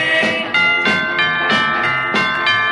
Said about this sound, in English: Let's have some church bells out there, guys, because we got to celebrate victory on the Savage Nation today.